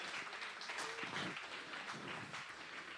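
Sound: audience clapping hands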